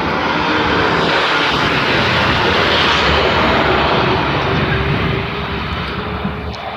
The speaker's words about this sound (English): That was a big truck. A big noisy truck. There's another one coming.